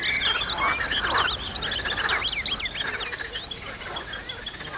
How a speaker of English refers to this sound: Ooh, and check out these frogs calling loudly.